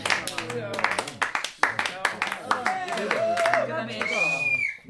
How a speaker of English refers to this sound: I'm afraid that's the end of our evening's entertainment. But before he goes, can I please ask for one final round of applause for Mr. Tug Fowler?